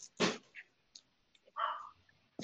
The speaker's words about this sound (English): Somebody's dog was barking.